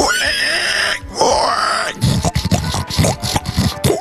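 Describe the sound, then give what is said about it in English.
A person imitates a pig with their voice: two long, strained squeals followed by a rapid series of rough, snorting grunts, loud with no other sounds. “That's a pretty damn good pig.”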